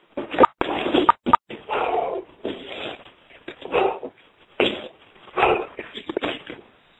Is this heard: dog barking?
yes